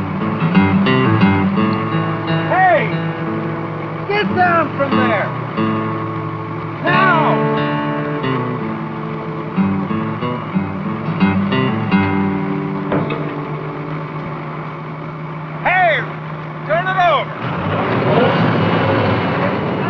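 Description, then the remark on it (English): A loud, steady engine drones throughout with a constant humming tone, and brief muffled voice-like sounds rise over it now and then. “You don't work on equipment when the engine's running.”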